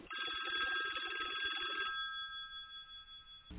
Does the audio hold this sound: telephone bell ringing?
yes